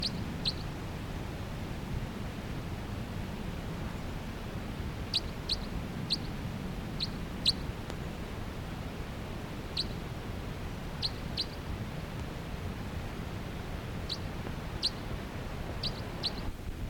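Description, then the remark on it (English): Brief, high chip-like flight calls from a pair of birds sound sporadically, sometimes in quick doubles or triplets, as they flutter about the canopy of a tall ponderosa pine with many cones, at 3 p.m., over a steady low rumble of background noise; no one speaks. “And they're occasionally giving flight calls as they flutter about the canopy of that tree.”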